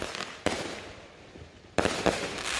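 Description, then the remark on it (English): Fireworks bang in a rapid series of sharp explosions, each loud blast followed by a lingering crackle and rumble, with a couple of booms landing close together near the end. “Depending on your perspective, fireworks can be a blast, pun intended, or they can be super annoying.”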